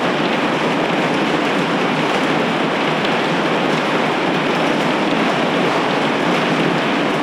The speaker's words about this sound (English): After being shrouded in thick bushfire smoke for weeks, Parliament House was transformed into more of a winter wonderland as a massive thunderstorm swept through Canberra.